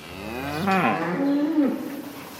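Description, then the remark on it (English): A cow moos loudly, a long rising-then-falling bellow followed by a lower drawn-out call, with soft farm ambience in the background, on the dairy farm of Wiesław Rutowski, a farmer with 99 cows to milk. “Wiesław Rutowski is a farmer with 99 cows to milk.”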